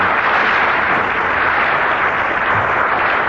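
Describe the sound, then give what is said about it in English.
Sustained audience applause at a panel game fills the entire stretch, a dense, steady wash of many hands clapping at once, loud, drowning out a line by Peter Jones, with no talking heard over it. “That was line was drowned in the applause, Peter.”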